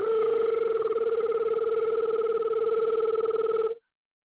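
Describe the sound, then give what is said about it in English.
A telephone rings in one long, steady burst of nearly four seconds, a loud trilling two-tone warble that cuts off abruptly into silence. No voices are heard. “Man, Bill, your phone ringing.”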